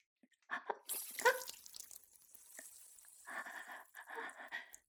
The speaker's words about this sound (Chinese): 他正在学习不方便，我给他倒水喝呢。